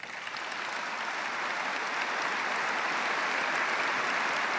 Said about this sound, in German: Der Applaus der Aktionäre dauerte eine knappe Minute. Anerkennung für einen Unternehmenschef von Weltrang, wie es der Aufsichtsratsvorsitzende vorab formulierte.